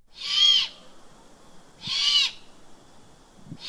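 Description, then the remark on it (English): A hungry juvenile great horned owl gives harsh, hissing screeches, two long raspy calls about a second and a half apart with a third starting, loud, with no talking. “This is a juvenile great horned owl.”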